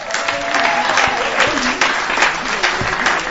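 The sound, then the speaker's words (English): An audience applauds steadily for a budding politician who has resigned as president of the Nigeria Association, a dense, continuous clatter of many hands clapping at even loudness for a few seconds, with no pauses and no voices standing out. “I think he deserves another round of applause, please, if you may.”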